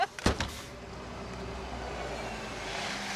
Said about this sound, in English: Oh, that's my bus. It's your bus.